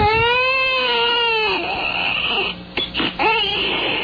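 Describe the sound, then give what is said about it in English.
A baby wails in a loud, high-pitched cry that turns raspy and breaks into short choppy sobs with gasping pauses before the wailing starts up again. No one talks. “A good shaking will get that crying right out of there.”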